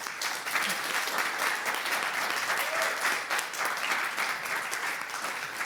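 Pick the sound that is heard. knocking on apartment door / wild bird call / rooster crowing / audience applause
audience applause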